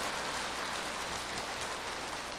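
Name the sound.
applause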